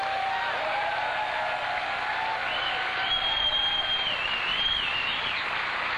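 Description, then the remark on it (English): Sustained, dense applause from a large audience for a drummer fills the whole stretch at a steady loud level, with a few high whistles rising above the clapping. “Why don't you give him all of your love? Round of applause for ….”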